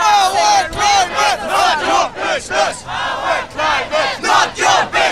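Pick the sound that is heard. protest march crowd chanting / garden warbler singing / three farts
protest march crowd chanting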